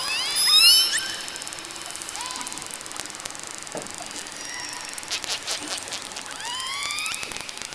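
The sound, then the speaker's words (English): Underwater calls of an orca, or killer whale: shrill whistles sweeping up and down, harsh squawks, and rapid clicking snaps like crackling rain, layered over a steady watery hiss with no talking. “And this whistling, squawking, snapping is courtesy of the orca, also known as the killer whale.”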